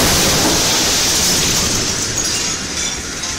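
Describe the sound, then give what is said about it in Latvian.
A loud, rolling roar from a meteor's air-burst explosion in the sky over the Chelyabinsk region of Russia, whose sound wave shattered windows in many buildings; a dense wall of rumbling noise that fades only slightly over a few seconds, with no voices. “Sprādzienu izraisītā skaņas viļņa dēļ daudzām ēkām izbiruši stikli, kas ievainojuši ap 500 cilvēku.”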